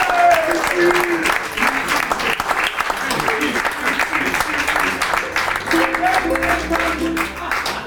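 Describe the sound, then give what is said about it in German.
A live audience claps steadily for several seconds, a dense, sustained round of applause with some cheering voices mixed into the crowd noise. “Mal einen Applaus.”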